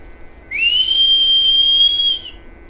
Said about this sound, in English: Maybe whistle again.